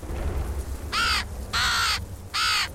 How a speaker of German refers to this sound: Eine Krähe und eine Vogelscheuche.